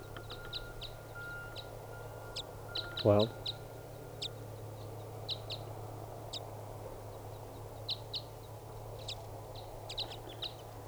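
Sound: wild bird singing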